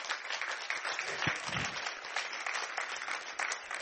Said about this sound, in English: Oh, you can do a better job of clapping than that.